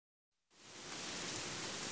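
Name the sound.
heavy rain falling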